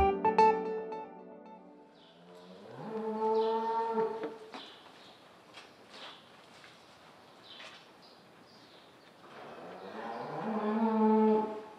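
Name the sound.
dairy cows mooing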